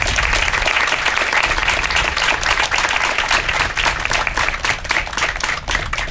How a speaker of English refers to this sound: So please give those individuals a huge round of applause.